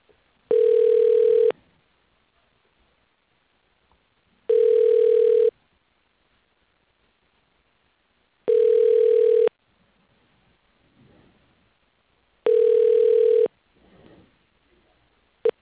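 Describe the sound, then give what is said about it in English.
A telephone ringback tone while a company phone system transfers a call to Brett Brown's extension, before reaching voicemail: it sounds four times, each steady buzzing ring lasting about a second, separated by roughly three seconds of near silence, with a faint murmur between the later rings. “Transferring to Brett Brown. One moment, please.”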